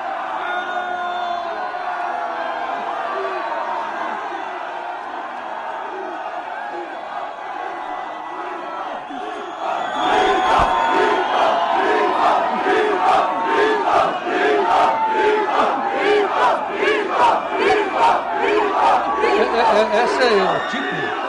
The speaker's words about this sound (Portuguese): Olha o desespero dos bombeiros da TV Cultura, porque eles nunca imaginavam que ele ia encontrar uma multidão dessa esperando um sujeito para descer, né, do carro ali, de uma van, para entrar na TV Cultura.